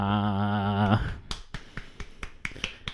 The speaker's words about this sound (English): Now, that's probably going to sound a bit pathetic. I'm doing a round of applause on my own podcast. I'm not applauding myself. It's part of the narrative.